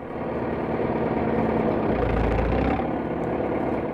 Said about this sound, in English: Listen to the throaty purr of the big diesel Caterpillar tractors that pull the heavy wagons off the flat cars and haul them to the showground.